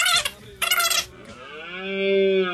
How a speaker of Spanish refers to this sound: Ahora, en esta época, precisamente, empieza la berrea, aunque no ha sido un año de lluvia, un año de lluvia bueno, pero la luna llena nos va a permitir, entre mañana hasta el sábado siguiente, escuchar la berrea, que es espectacular.